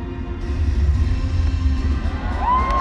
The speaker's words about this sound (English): And the fireworks have started also. A spectacular scene here in the Middle East. The first time the Middle East has hosted the Special Olympics.